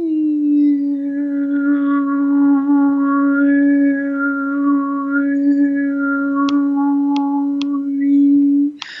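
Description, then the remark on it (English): A single voice does overtone singing, holding a steady low drone for about nine seconds while a clear, whistle-like harmonic glides up and down above it, the melody shifting over the sustained fundamental. Loud and continuous. “The harmonics in any sound, the higher frequencies that make up a sound, I can do bring out the harmonics in my voice.”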